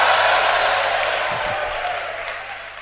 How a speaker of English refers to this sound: Give the Lord a mighty shout and a clap offering.